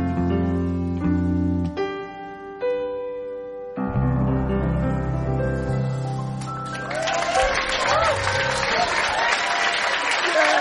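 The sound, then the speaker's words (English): Sustained music chords fade out, then an audience bursts into loud, dense clapping with whoops and cheers that fills the last few seconds. “Clap, clap, clap! Doing the clapping!”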